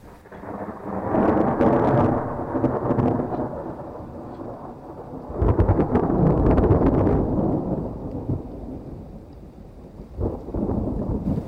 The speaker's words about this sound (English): you hear the crack of thunder in the distance and you're just trying to get away from it